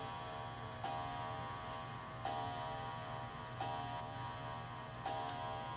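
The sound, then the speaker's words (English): A clock chimes four evenly spaced strikes, each ringing tone lingering into the next over a steady low hum. The chimes sound soft, and no one speaks. “We'll wait just a second, let the clock get over.”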